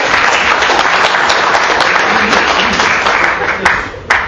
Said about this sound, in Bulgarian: И така, треньор на годината Станимир Бойчинов. Бадминтон клуб Хасково с изключителен принос за успехите на девойките и за европейската титла на Стефани Стоева. Още веднъж аплодисменти.